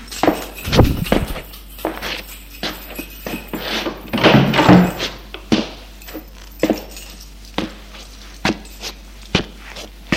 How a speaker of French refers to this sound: Il va ouvrir la porte de son appartement.